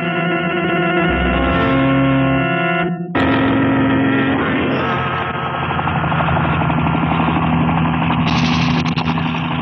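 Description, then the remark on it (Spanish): A loud helicopter, descending and heading toward the onlookers, drones continuously, its engine whine and rotor chop forming a dense, steady mechanical roar, with a brief dropout around three seconds before the roar resumes with a slightly rising tone. “¡Es un helicóptero! ¡Santo cielo! ¡Viene bajando! ¡Se dirige hacia nosotros!”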